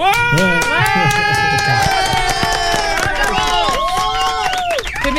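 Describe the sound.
An audience bursts into loud, sustained applause to welcome a guest, dense clapping mixed with whoops and cheering voices, holding steady for the full five seconds before easing slightly at the end.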